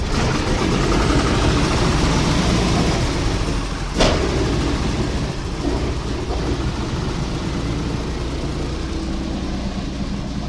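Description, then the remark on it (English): Old propeller plane engines start up and warm up before takeoff, rumbling loudly and steadily in a dense, droning roar that holds throughout, broken briefly by a single sharp knock partway through. “The old plane took a while to warm up.”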